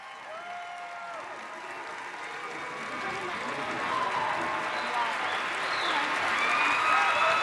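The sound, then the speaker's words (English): A large crowd applauds steadily, a dense wash of clapping that swells slightly louder toward the end, with faint voices and a few whistles or cheers mixed in. “That applause is not for me, by the way.”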